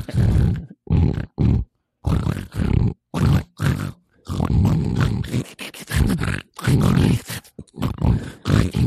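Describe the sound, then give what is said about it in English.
A person imitates a pig with a rapid series of loud, guttural grunts and snorts in short bursts, almost like squealing pig chatter, with brief silent gaps between them. “This okay is a legitimate impression of pigs actually hosting the podcast, just for 30 seconds.”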